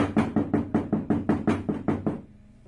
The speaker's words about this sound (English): So I'm in the bathroom, taking care of business, and all of a sudden I just hear this repeated knocking.